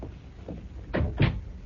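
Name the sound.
door being closed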